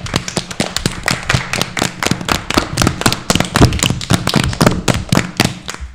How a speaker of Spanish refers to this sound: Yo creo que se merece un aplauso, ¿verdad?